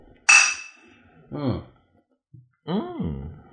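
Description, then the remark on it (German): A single bright clink of glasses in a toast rings out and fades quickly, followed by two short spoken words. “Prost. Trinken. Auf Franz Beckenbauer.”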